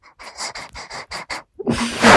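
A dog pants in quick, breathy bursts, about seven short rhythmic puffs, then a louder snuffling exhale and a rush of noisy breath at the end.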